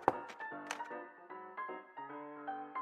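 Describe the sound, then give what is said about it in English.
A few hollow knocks on a door by a woman who has just set a tray down, irregularly spaced, heard over a soft, sustained musical drone that shifts pitch in the background. “placed a smile on her face before placing the tray down and knocking.”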